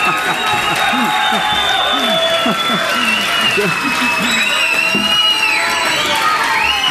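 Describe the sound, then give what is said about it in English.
A large crowd cheers and applauds steadily for about seven seconds as a teacher is introduced, with many overlapping shouts, whoops and high sustained whistles rising over a dense, loud wash of clapping. “Well, what a crowd!”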